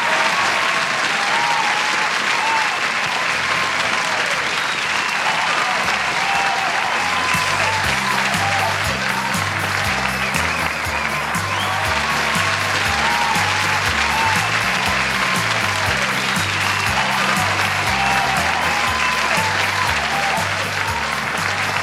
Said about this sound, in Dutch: En dan wil ik iedereen heel hartelijk bedanken voor de felicitaties en de reacties van 30 jaar muzikantenparade vorige week zondag. Nou, dat is wel een applaus waard, hè?